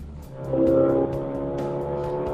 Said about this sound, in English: Are you a car guy? Is that the kind of thing that kind of make your heart race? Listening? Hearing vroom vrooms and stuff. Yeah. The racing, huge, powerful engine. It's cool. I like it.